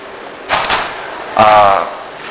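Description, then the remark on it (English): A door opens: a short rattling thump of the handle and latch, then a brief tonal creak as it swings, over steady room noise. “Yeah, you can leave the door open, that's okay.”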